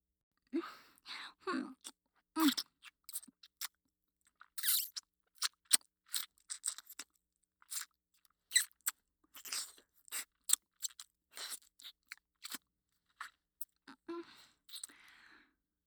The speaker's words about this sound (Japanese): 首筋、ペロペロしたいな。